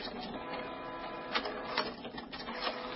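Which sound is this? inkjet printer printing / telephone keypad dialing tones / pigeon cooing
inkjet printer printing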